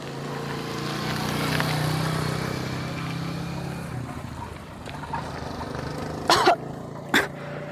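A motorcycle engine drones steadily in the countryside by a small village clinic, then fades away as it passes. Two short, sharp bursts of noise follow near the end.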